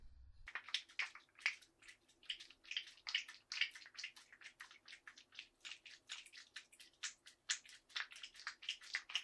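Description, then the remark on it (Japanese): Wet squishing as soap is worked into a foamy lather, a rapid, steady run of bubbly squelches lasting several seconds with no voices. “立派なたまたま、よーく泡立てて、にゃっぱにゃっぱにゃっぱにゃっぱにゃっぱにゃっぱにゃっぱにゃっぱ”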